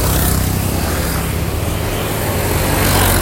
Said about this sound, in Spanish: Oh my God, todas las motos, todas juntas.